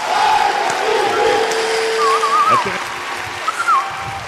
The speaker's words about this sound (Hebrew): ולכן חברים, מחיאות כפיים, כן, מותר לנו הלילה הלילה.